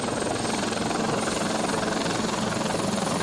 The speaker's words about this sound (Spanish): Los helicópteros e hidroaviones recogieron agua de puntos como el puerto exterior o el embalse de Meicende. Así suenan algunos de los efectivos empleados en las labores. Se movilizaron, como decimos, hasta 5 helicópteros y 2 aviones para apoyar